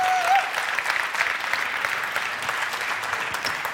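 Steady audience applause welcoming a speaker, a dense crackle of many hands clapping at an even level throughout, with a brief high whistle-like tone at the very start.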